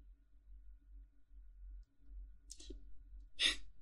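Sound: yawning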